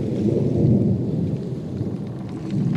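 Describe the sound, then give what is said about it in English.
Deep, rolling thunder of a brewing storm rumbles continuously with a heavy low-end roar, joined by a faint hiss of rain, steady and fairly loud throughout with no voices. “It was clear to anyone, man, nature, or other, that a storm was brewing.”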